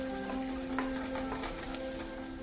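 rain falling

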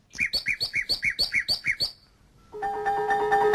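nightingale song

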